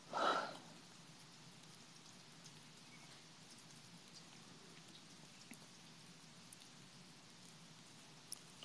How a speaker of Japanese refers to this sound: クソ雨降ってるんだけど外。